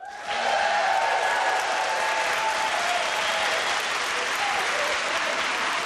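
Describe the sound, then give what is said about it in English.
A live studio audience in Studio One at the RTE Radio Centre bursts into steady, loud applause during Arena's Culture Night 2025 special, dense clapping that holds for several seconds with faint cheers and whistles mixed in, and no one speaking over it. “We have thrown open the doors of the RTE Radio Centre and set up camp here in Studio One with a very enthusiastic live studio audience.”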